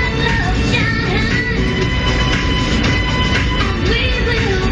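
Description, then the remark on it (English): A steady, loud low rumble fills the space, like riding inside a train rolling along the rails, with faint squeals and hums layered over the constant roar and no voices. “I'm sitting on the train.”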